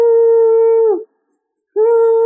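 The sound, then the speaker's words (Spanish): A voice imitates a whistling sound heard in an apartment in Mexico City: a steady, sustained hum-like tone for about a second that sags in pitch as it fades, then a short silence before the same tone starts again. “imagínense que llegué a Ciudad de México y estaba sola en un apartamento y de repente empiezo a oír un silbido, así como...”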